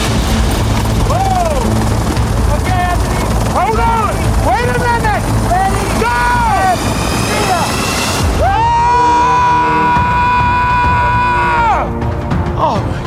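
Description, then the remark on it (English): A loud, steady helicopter roar fills the whole recording, with voices calling out over the engine noise and a sustained whine rising near the end, as people aboard prepare to jump out of the helicopter over mountain peaks. “There is nothing like jumping out of a helicopter.”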